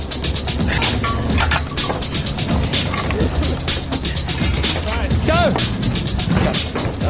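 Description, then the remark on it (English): A car window being smashed during a timed team competition: loud, repeated crashing and banging blows in quick, irregular succession, with metallic clatter and shouting voices throughout. “smash the window! Smash the window!”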